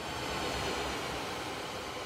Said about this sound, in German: Die Software kann Lärmemissionen von Zügen auf jeder Strecke originalgetreu hörbar machen und zusätzlich Lautstärkepegel anzeigen.